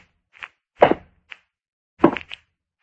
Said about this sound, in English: I got a whole bag of ghostly tricks to try out. Why, it's years since I had a chance to use a single one of them. Hey, what about some invisible footsteps, eh?